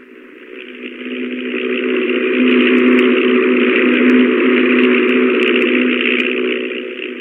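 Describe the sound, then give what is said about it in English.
The engine of a rickety propeller stunt plane drones steadily in flight around 1923, with a trick wing walker aboard, as it flies upside down over a long distance: a loud, rough, buzzing roar with a low throbbing hum that swells slightly and holds constant, with no voices. “One day he went up in that rickety plane with the trick wing walker”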